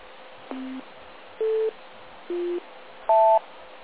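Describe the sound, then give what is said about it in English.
Four short electronic timing tones, marking where you are in the timing on a radio net, play one after another at an even pace, each a steady beep at a different pitch, with the last one higher and doubled. There's a faint background hiss and no talking. “So is the NBC order of the tones at all possible?”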